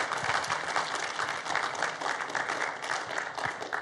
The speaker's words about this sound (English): And if this is your first time here, we just want to welcome you. And we do that around here by honoring you. And we clap for you. So, welcome.